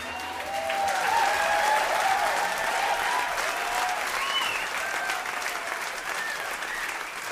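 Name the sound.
audience applause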